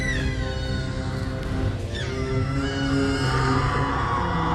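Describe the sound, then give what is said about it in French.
Loud, continuous screaming from several overlapping voices in a film scene, heard from afar, harsh and anguished, with pitches sliding up and down over a dense, unbroken wall of sound that never lets up. “Putain, la vache, les cris sont horribles, quoi.”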